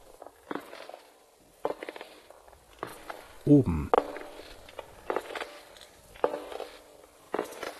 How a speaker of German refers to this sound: Langsame Schritte. Langsame, feuchte Schritte. Langsame, feuchte, klebrige Schritte, die lauter werden. Die eine Stufe nach der anderen bewältigen. Abwärts.